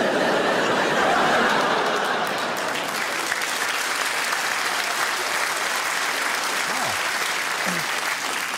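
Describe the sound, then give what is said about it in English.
A comedy crowd bursts into loud, sustained applause after a joke about Josef Fritzl, dense clapping filling the whole stretch and tapering slightly toward the end, with a few scattered chuckles mixed in. “A round of applause for a Fritzl joke.”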